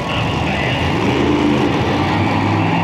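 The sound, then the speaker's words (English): A big Monster Jam monster truck, driven very slowly in Tampa by TV host Luke Burbank, rumbles steadily at low revs as it creeps along. The engine is loud, with a constant deep drone and a broad roar. No voices are present. “The guy from the TV show is going really slow in that monster truck.”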